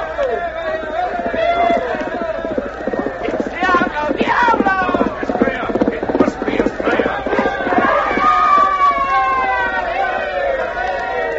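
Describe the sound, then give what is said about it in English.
Rapid, steady hoofbeats of horses galloping hard in a race, drumming in an even rhythm for most of the stretch, with excited voices and crowd-like noise layered over them. “My horse even came from behind to beat yours.”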